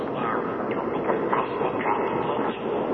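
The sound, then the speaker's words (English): A train rumbles steadily along the rails with a continuous, dense clatter and faint rhythmic clicks, fairly loud throughout, with no voices. “What are you doing here on the train?”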